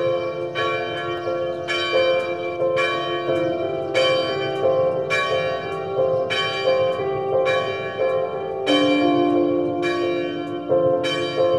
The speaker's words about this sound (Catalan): Diuen i expliquen que no fa tants anys el so de les campanes formava part del paisatge sonor de pobles, viles i ciutats.